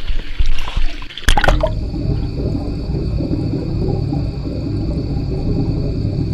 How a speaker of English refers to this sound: So I'm in my bathtub, and one of the things I've been doing a lot lately is dunking my head, my ears underwater, and just laying there listening to what things sound like through water.